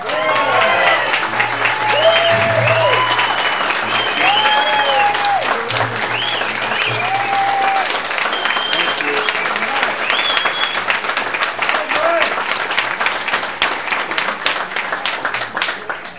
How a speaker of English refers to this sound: But you know, it gets embarrassing when the applause you get before you speak are longer than the applause you get after you speak.